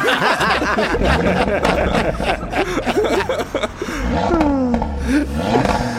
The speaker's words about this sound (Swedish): Men han vill ändå visa hur högt kusinens bil ändå kan låta.